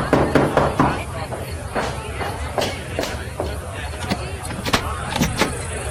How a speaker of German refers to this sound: Hey, könnt ihr nicht leiser klopfen? Was soll denn das?